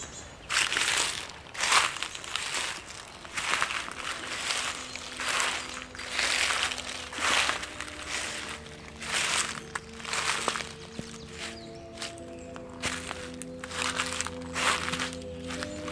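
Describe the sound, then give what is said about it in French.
Footsteps crunch steadily along a small path of dead leaves after the sun has gone in, in a regular walking rhythm of broad crackly bursts, while a faint sustained tone hums underneath. “Et soudain, le soleil s'est caché, la piste s'est perdue, au bénéfice d'un petit sentier de feuilles mortes.”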